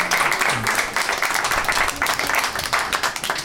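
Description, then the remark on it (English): Several people clap together in a steady, dense patter lasting a few seconds, fairly close and moderately loud, with faint voices mixed in underneath. “I don't know why clapping.”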